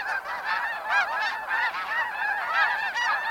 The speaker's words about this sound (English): Geese migrate north between February and April, making stopovers along the way to rest and eat. Most are bound for their breeding grounds in the far north. But we'll hear them again soon, on their way back south in October.